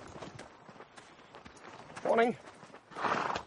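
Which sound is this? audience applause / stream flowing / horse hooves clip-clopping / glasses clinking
horse hooves clip-clopping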